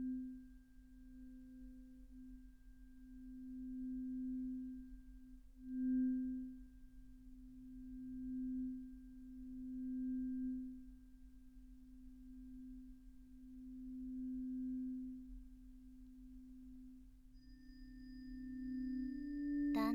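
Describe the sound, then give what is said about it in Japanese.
A tuning fork sounds a steady, pure pitched hum, holding one low note for the whole stretch with gentle swells in loudness and a faint rumble beneath, no voices. “こうして音叉の音色に耳を傾けていると、だんだんと心の波形もまっすぐに静かに落ち着いていきませんか？”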